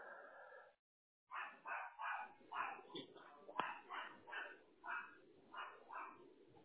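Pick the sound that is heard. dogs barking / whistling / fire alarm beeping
dogs barking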